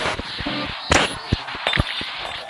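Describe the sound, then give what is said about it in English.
A vase shatters with a sharp crash, followed by a few scattered clinks and clatters as pieces hit the floor over a couple of seconds. “You just experienced the dreamy Afro-Celt meditations of a vase being shattered.”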